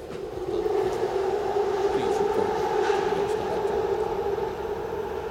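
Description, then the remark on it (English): A New York City subway train, the G train running between Brooklyn and Queens, rumbles steadily, its motor whine holding a droning hum throughout, with faint squeals and rattles over a constant, fairly loud roar, as if heard from inside a moving car. “You know the ghost train in New York City? If you want to go from Brooklyn to Queens and you don't want to go through Manhattan, you got to take the ghost train,”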